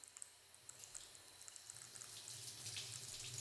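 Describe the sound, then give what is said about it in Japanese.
Water runs steadily from a shower, rinsing shampoo foam from hair, a bright continuous hiss with soft splashing that grows slightly fuller toward the end, fairly quiet with no voices. “はーい、じゃあそろそろ泡を流しちゃいましょうね。”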